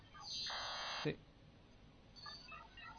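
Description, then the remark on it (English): A steady, piano-like electronic mobile phone keypad tone holds for under a second, followed later by a few faint, short beeping tones against a quiet background. “See, those are the keys, the piano-like sound.”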